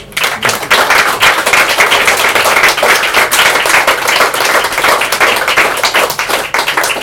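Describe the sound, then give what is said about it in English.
A room full of people applauds steadily, a dense, loud wash of many hands clapping close together that holds for several seconds with no voices over it. “I love how when someone says it's their first time, the whole room just claps.”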